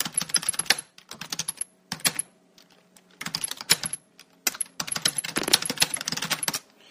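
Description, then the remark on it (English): Bursts of rapid keyboard typing, each broken up by short, thin, high-pitched beeps from the NVDA screen reader in 'speech mode beeps', which beeps instead of speaking, chirping repeatedly between the keystrokes, with brief pauses of silence between the bursts. “I'm not sure if you heard this, but every time NVIDIA was going to speak, was supposed to speak, it said it produced a high-pitched beep.”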